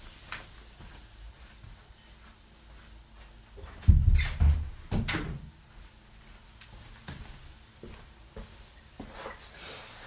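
A door is pushed shut, giving a muffled low thud with a couple of short clicks and rattles around it, set against otherwise quiet surroundings.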